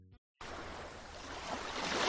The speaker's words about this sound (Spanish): ¿Lo escuchas? Es el mar.